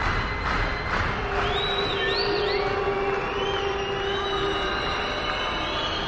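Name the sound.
concert audience booing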